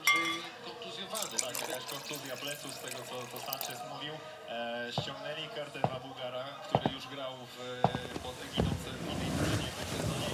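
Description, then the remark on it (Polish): Red wine pours into glasses with a liquid splash, and a few sharp glass clinks ring out, while voices and background sound carry on underneath. “Pomyślałam, że należy nam się po kieliszku dobrego, czerwonego wina.”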